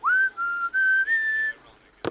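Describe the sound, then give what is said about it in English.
A man whistles a short, clear tune of four held notes, fairly loud with no talking, ending in a brief burst of noise. “It happened right when that fellow whistled, like this.”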